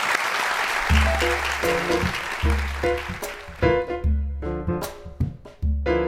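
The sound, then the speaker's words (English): An audience applauds the speakers of a book conversation, a dense wash of clapping that gradually thins out as a melodic musical passage with distinct stepped notes plays over it and takes over. “We strongly recommend it to you, but let's give our conversants a round of applause.”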